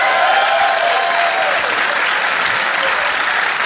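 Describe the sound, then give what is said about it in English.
An audience breaks into loud, sustained applause to show agreement with the speaker, a dense wash of clapping that holds steady for several seconds with a faint whistle-like tone briefly riding on top early on. “How many people agree with me by applause that I'm right?”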